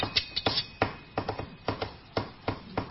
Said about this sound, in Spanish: No a los tics. Tiene delante un chico que golpea la tapa del bolígrafo.